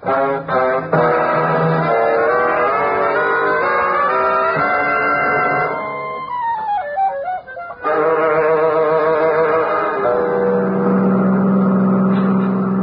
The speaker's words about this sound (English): Drove away? Did someone? Yeah. A car just went down the other drive.